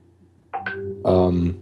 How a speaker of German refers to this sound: Entschuldigung, ich weiß nicht, ob man das gerade gehört hat, die Benachrichtigung. Ja, habe ich gehört. Sorry, ich habe es gerade ausgestellt.